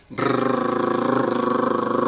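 A voice holds a steady rolled tongue trill on one pitch for about two seconds as a vocal warm-up exercise, with a fast, even flutter running through the sustained buzzing tone.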